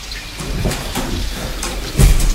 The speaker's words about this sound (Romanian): M-a trezit furtuna.